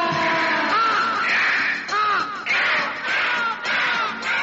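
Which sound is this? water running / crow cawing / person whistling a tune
crow cawing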